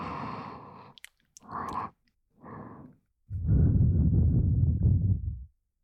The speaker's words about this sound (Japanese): ほら、私の息遣いも感じるぐらい。